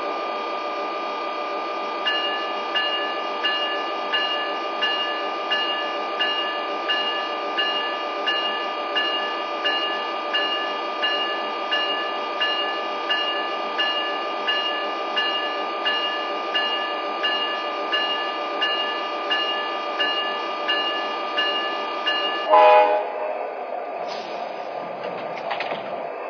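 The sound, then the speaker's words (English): A Northeast Corridor Line commuter train, number 3825, rolls along on track 1 with a steady droning hum and regular rhythmic clacks, then near the end a sudden burst and hiss as it comes to a stop at New Brunswick station. “station on track 1, train number 3825, the Northeast Corridor Line.”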